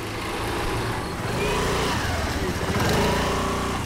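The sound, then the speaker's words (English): Small two-wheel motor scooters drone steadily as they ride along a bumpy, narrow dirt path in Shirley, a village in North Goa, their engines buzzing continuously with a rough, rattling texture, the noise loud and unbroken throughout. “On two-wheel scooters, Kapil Korgaonkar from the Goa Heritage Action Group and I make our way down a bumpy, narrow dirt path”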